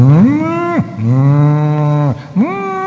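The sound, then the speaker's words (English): Loud cow moos overlap one after another, long sustained bellowing calls with a rising, droning tone, like several cattle lowing together in a herd. No one speaks. “As a calf follows its mother amongst thousands of cows. There's thousands of cows.”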